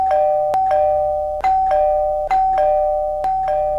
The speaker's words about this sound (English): The doorbell kept ringing and ringing